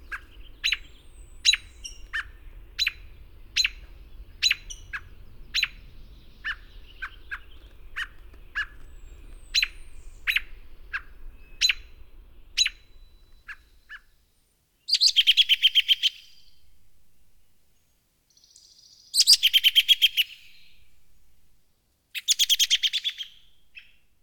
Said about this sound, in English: The robin also has a number of calls, including peek and tut alarm notes, given near the nest, and whinny calls, signifying mild alarm.